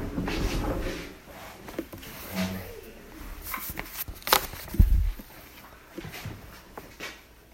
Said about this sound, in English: can you close that door for me?